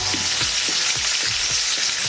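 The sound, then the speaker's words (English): Mysterious underwater noises from the Baltic Sea, heard by the Swedish Navy in the 1980s and 90s: a steady sizzling, crackling hiss with a string of low, rhythmic croaking pulses repeating about twice a second, no voices. “The Swedish Navy heard strange noises in the Baltic Sea. I'll play the noises for you.”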